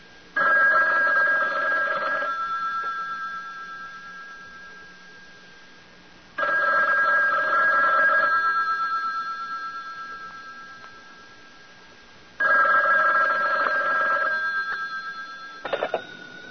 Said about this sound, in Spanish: Suena el teléfono en la taquilla del Teatro Solís.